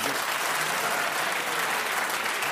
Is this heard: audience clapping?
yes